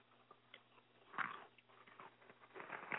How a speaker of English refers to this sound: I was just chewing chips. My chips didn't sound nothing like that.